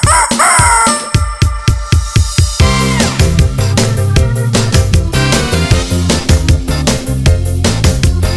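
A short rooster crow rings out at the very start, loud and close, before a bouncy, rhythmic musical backing with steady beats takes over for the rest.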